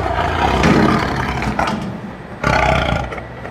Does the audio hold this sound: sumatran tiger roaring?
yes